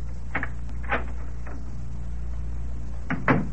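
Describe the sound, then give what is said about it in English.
An unlocked apartment door is opened, with a few scattered clicks and rattles of the latch and a louder knock-like thud at the end, all over a steady low hum. No one speaks. “And the door wasn't locked.”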